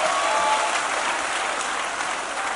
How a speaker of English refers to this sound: Happy birthday. Please clap for her.